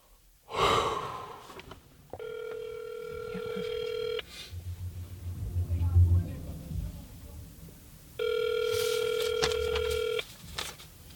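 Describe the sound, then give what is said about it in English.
A phone call placed from a mobile phone in a car on a residential block rings out through an earpiece: two long, steady electronic rings separated by a pause, with a sharp breath at the start and a low rumble between rings. “Back in the car on a random residential block, I take out my phone, punch in the number for the boy in the photo.”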